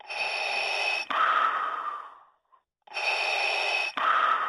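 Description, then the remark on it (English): Darth Vader's breathing sound effect from a chibi plush keychain toy: slow, heavy mechanical breathing through a respirator, two full hissing inhale-exhale cycles with a brief silent pause between them, loud with no talking. “Yes, it's the hauntingly familiar breath sound effect or breathing sound effect of Darth Vader, reduced to a chibi little plushy.”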